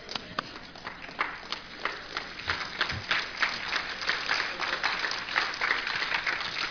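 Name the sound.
thunderous applause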